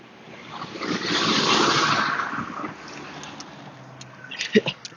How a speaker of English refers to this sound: Oh, excuse me, there's a tractor driving by here.